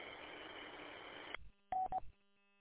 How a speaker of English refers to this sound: Well, I got a phone call coming in here, so I want to let you go.